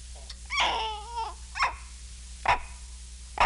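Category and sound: animal, monkey vocalizing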